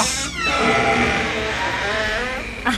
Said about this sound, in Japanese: ドアごっつ音するやろ。今度はあの CRC556 買うてってほしいな。